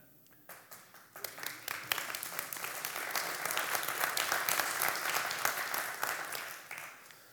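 A crowd breaks into applause, starting with a few scattered claps and swelling into full, steady clapping that holds for several seconds before easing off slightly at the end.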